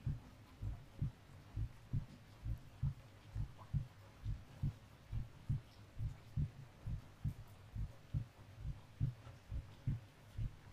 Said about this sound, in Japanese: こうしてお互いの心臓の音を聞いてると、だんだん気持ちが安らいでいくね。あ、少し鼓動がゆっくりになってきてる。リラックスしてきたからかな？